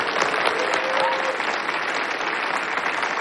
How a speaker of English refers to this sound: We float over Madison at night. The crowd applauds as the mayor comes out on stage.